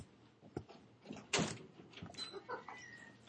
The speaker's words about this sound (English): And you get the door open there.